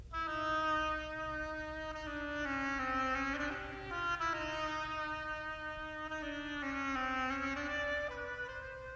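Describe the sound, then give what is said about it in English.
A solo oboe, playing the part of the duck in Peter and the Wolf, plays a slow, legato melody of sustained, reedy mid-range notes that rise and fall gently, with no voices present. “The duck is an oboe.”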